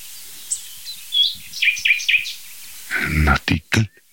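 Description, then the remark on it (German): A common nightingale sings a short run of sharp, rising whistled notes and then stops, followed by a man's voice speaking briefly. “Nachtigall.”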